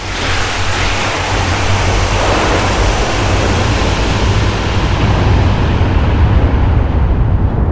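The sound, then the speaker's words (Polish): A steady, dense wash of open-ocean waves and surf at night, loud and continuous with a deep rumbling low end and hissing spray, and no voices. “Noc na otwartym oceanie. Ciemność. Cisza. Płyniecie statkiem.”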